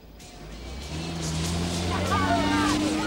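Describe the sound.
Four-wheel-drive vehicles in a rally race along a beach, engines roaring and droning, rising steadily in pitch as they accelerate, loud, with a faint voice under the motor noise.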